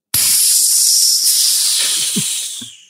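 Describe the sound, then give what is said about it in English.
A loud, steady rush of hissing air as a compartment depressurizes starts abruptly and holds for nearly three seconds, with faint low clunks and rumbles underneath, then tapers off at the end. “I'm entering the depressurized compartment. Depressurization complete.”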